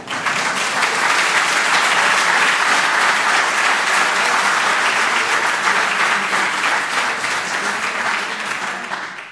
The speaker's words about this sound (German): Schön, da haben Sie doch einen Applaus verdient.